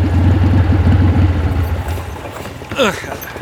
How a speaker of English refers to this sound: we got 2 motorcycles coming. Is that your friend? Looks like it.